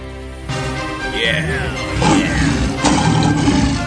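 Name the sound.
lion roaring loudly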